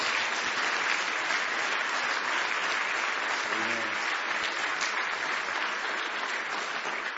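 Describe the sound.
A church audience claps steadily in sustained applause, a hand clap of praise to God, a dense wash of many hands, with a brief spoken word rising through the middle.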